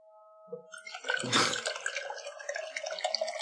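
Water pours or runs steadily after a brief splashy onset, a continuous gurgling wash lasting a few seconds with no one talking.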